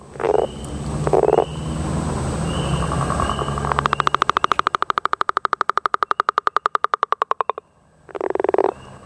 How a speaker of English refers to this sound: That's the distinctive two-part call of the northern leopard frog that you should start hearing soon around nearby ponds and wetlands.